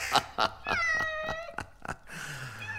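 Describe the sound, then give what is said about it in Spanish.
A cat meows insistently, a rising, drawn-out cry broken by a few short sharp clicks, then a second whiny meow trailing off at the end. “¿Qué gato más impaciente?”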